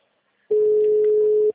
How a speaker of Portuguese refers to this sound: Tá chamando o telefone. Ele só não tá atendendo.